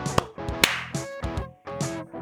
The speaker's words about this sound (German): Wenn du geklatscht hast, dann hat es geklappt.